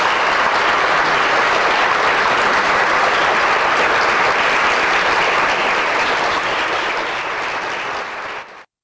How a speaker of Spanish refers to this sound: Un aplauso para mí.